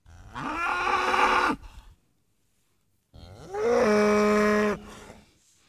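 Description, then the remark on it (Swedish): Two long, loud cow moos, each lasting over a second with a rising start and steady harmonic drone, separated by a brief silence, with no talking. “Ja, det var ju kor som råmade, vilket kunde leda tankarna till nöt, som är nötkreatur.”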